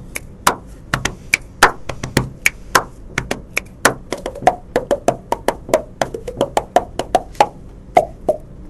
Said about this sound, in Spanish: Bueno, vamos a hacer un poquito. Hago un poquito de música así con el cuerpo y con eso estamos.